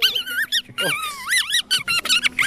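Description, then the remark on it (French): A reedy, squeaky warble from a membrane buzzed on the tongue by blowing, swooping and bending in pitch through a quick run of chirps and squeals, loud and uninterrupted by speech. “On le place sur la langue et on essaie de faire vibrer cette petite membrane en soufflant sa direction.”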